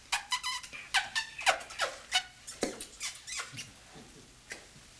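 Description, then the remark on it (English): A rapid string of a dozen or more smacking kiss sounds made with the lips to act out a kiss in a told story, sharp and squeaky, repeating in an irregular quick rhythm, with no talking. “You want to help me make kiss sounds?”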